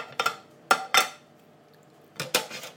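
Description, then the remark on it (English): A utensil scrapes and knocks against a pan in short, bright bursts, a few quick strokes, a pause, then another cluster, as food is broken into chunks. No one speaks. “Roughly break it up, otherwise it goes to nothing into kind of chunks at the moment, so I'll just leave it roughly like that.”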